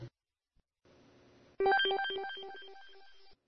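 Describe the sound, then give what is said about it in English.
A turned-down beep introducing a show segment: a quick run of about eight bright electronic tones, ringtone-like, stepping in pitch and fading slightly before stopping abruptly, preceded by a low steady hum and no talking. “Also, in response to many, many requests, I have amped down the beep that introduces each segment.”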